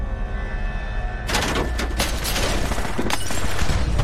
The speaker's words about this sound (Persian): داره بهمون تیراندازی میشه. مامورین FBI نیاز به کمک دارن.